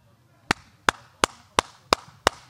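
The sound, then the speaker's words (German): Six loud, dull hand claps in a steady, even rhythm, each a sharp smack with a short fading tail and nothing else sounding between them, demonstrating how one normally claps versus a louder clapping style. “Ich kann es, Christoph Diekmann, also normalerweise klatscht man so, meine Frau sagt immer, klatsch nicht so laut, ist viel zu laut, ich klatsch so.”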